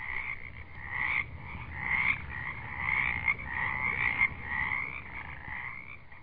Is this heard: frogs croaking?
yes